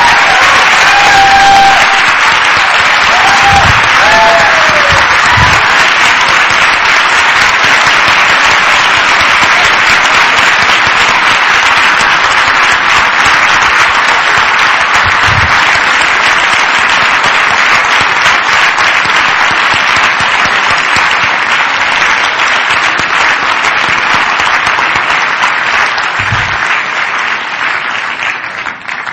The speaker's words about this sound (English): these students couldn't have graduated without you. So I'd like to give a round of applause.